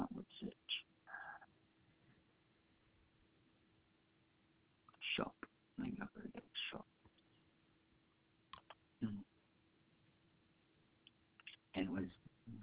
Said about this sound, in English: I'm clicking on the search thing. Where is it?